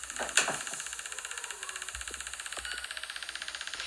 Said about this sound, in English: Washing machine's on next door.